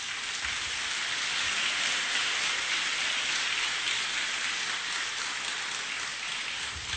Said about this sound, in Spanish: Gloria al Señor. Desde esa noche, aplauda al Señor.